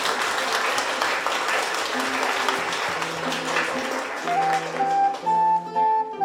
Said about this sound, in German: Applaus, ihr beiden.